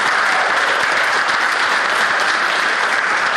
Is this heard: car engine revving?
no